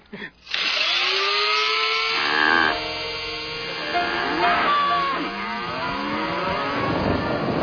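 A small motorized grinder starts after a brief click and whirs loudly and steadily for about seven seconds, its rough grinding tone wavering in pitch as it crushes coffee beans.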